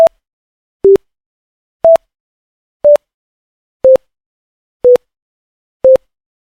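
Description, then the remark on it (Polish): An old-school, near-monophonic phone ringtone, converted from a phone's file and played back: seven short, single-pitch electronic beeps spaced about a second apart, loud, with slightly varying pitches and no voices. “I mamy piękny, oldschoolowy, prawie że monofoniczny dzwonek.”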